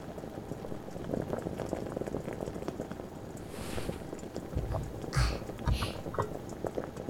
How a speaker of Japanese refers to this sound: 鍋の方は、いい感じに沸騰し始めたわね。